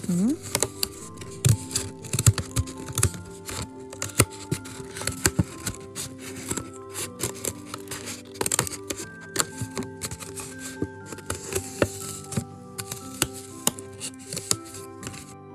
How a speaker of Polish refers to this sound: No i teraz wytnij cały narysowany kształt jaszczurki. Pewnie prościej będzie wam to zrobić raczej mniejszymi nożyczkami niż większymi.